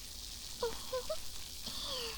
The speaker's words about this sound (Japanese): これをまずは手のひらでよーく泡立てていきます。シュワシュワー、パチパチー。耳元で炭酸の泡が弾けてるの、わかりますか？